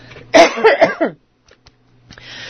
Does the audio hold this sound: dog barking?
no